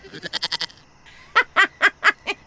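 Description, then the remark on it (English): A goat bleats in quick, wavering pulses: a fast, fluttery run of short calls, a brief pause, then a louder, slower series of six bleats, clear with no talking. “And the fluffy kitty rises onto its hind legs and transforms into a heavily muscled man with the horned head of a goat.”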